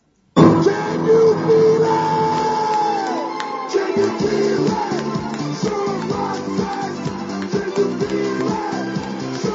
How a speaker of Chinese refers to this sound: 另外呢，我们这次大赛还有两位著名的相声表演艺术家担任总评，哎，也就是我们的监评。下面呢，我们用掌声来请出他们。